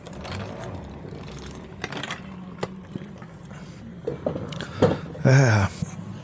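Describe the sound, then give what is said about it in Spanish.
A person drinks water at a microphone: scattered small clicks and sips, then a louder gulp near the end, all over a steady low room hum with no talking. “Voy a tomar mi agüita y a ver cómo soy en el micrófono.”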